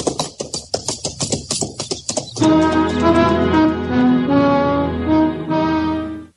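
Hollow coconut-shell knocks mimic a galloping horse as a sound effect in the radio drama Fort Laramie, in a quick, steady clip-clop rhythm for about two seconds, then give way to loud, sustained music.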